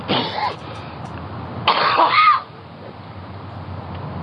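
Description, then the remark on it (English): Two harsh, raspy bursts of coughing and hacking, loud, separated by a brief pause, over a steady low background rumble with no talking. “just coughing and hacking.”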